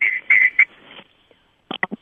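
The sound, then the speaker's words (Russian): A telephone rings with shrill, warbling bursts for about a second as a caller phones in to a live broadcast. After a brief pause come three quick, clipped electronic beeps, like a call connecting on the line. “Так, у нас есть первый телефонный звоночек.”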